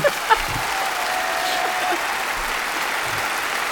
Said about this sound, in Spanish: Otro aplauso, encima, por favor, para campeonas ellas. De Europa. Por favor.